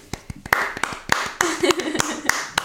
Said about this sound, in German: Also für alle, wo ihr sind und du jetzt zu mir kommst, kleiner Applaus.